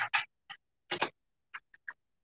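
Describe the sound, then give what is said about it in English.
A keyboard connector being plugged in: a few sharp plastic clicks and short scraping rattles in two loud clusters, then three softer ticks, with no talking. “Put my keyboard in.”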